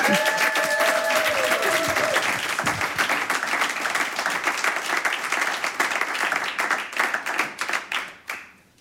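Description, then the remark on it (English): A sustained burst of audience applause, dense and loud, with many hands clapping at once before it thins out and fades near the end. A brief whistle-like tone rings early on. “So go and have fun like a fish in the water and have a warm applause.”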